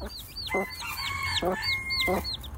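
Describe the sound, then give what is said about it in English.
A mother hen gives three low, spaced clucks to encourage her chicks to eat while they keep up a steady stream of high, thin peeps around her. “And she's just making little noises to them as well to encourage them to eat, saying, come on now, a bit like your mum.”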